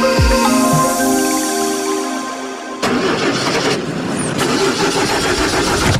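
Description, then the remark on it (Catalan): A car engine making a strange noise cranks with a rising, whining starter for a few seconds, then catches and settles into a loud, rough, rattling idle, with no voices. “Uf, el cotxe em fa un soroll estrany”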